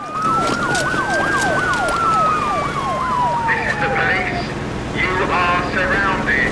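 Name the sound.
police car sirens wailing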